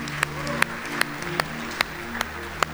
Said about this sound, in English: Let's give the Lord some hand claps, huh?